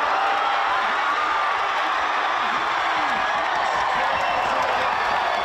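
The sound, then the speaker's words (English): A large crowd roars and cheers continuously at a rowing venue as the New Zealand men's eight win gold, a loud, dense wall of voices and clapping that holds steady without a break from start to finish. “Then things kicked up another notch, the place rocking, the noise deafening, as the men's eight claimed their first gold in nearly half a century.”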